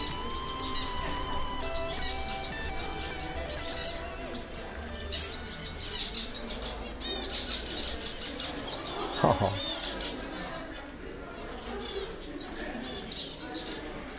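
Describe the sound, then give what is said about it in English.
Many small finches at the botanical gardens in Birmingham chirp and twitter continuously in high, rapid, overlapping tweets, a busy chorus of tiny squeaky calls with a low murmur of background noise underneath. “These are the botanical gardens in Birmingham. I like the sound they make, I do. But they sound really small.”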